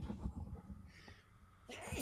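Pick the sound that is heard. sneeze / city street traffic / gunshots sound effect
sneeze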